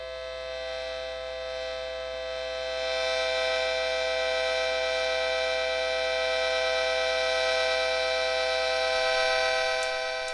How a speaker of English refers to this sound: A three-note tea kettle and its owner